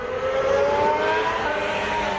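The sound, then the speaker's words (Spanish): A Williams FW46 Formula 1 race car engine screams at high revs, its sharp whining pitch rising steadily and sustained, loud, with no one talking. “Terminó el Mundial de Fórmula 1 con Carlos Sainz segundo en Abu Dhabi y Sainz ya sabe cómo suena su nuevo coche”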